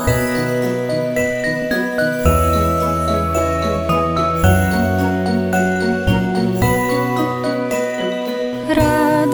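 Small bells jingle in a steady, bright shimmer over a loud, full instrumental backing with sustained chords and a bass line, playing continuously with no voices.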